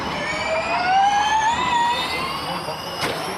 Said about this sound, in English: It is Formula E. Uh-huh. It's an electric race car, and Formula E races are pretty intense.